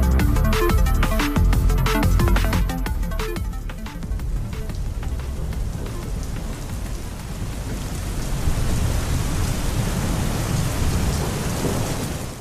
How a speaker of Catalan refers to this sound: Si sou de Sant Cugat, segur que trobeu a faltar aquest so. El so de la pluja, d'una tempesta, de l'aigua caient als carrers de la ciutat.